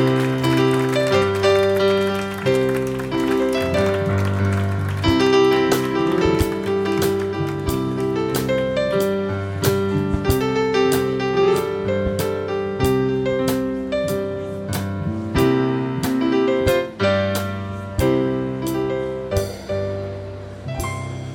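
A live band plays a rendition of the Cheers TV theme, with sustained harmonic chords over a steady, punchy drum beat, loud and continuous throughout with no voices.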